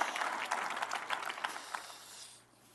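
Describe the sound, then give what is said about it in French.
An audience applauds, with many hands clapping in a dense, steady patter that holds fairly loud for about two seconds before quickly dying away. “Commande encore une bonne main d'applaudissement.”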